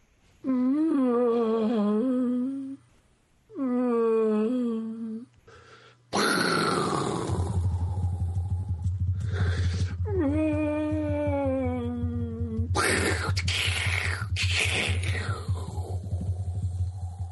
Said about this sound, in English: And then every so often you can hear a brachiosaur just go...